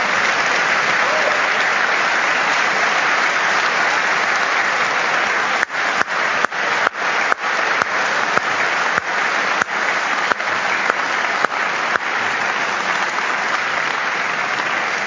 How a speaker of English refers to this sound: I forgot to tell you that don't applaud quite yet, although I understand the enthusiasm.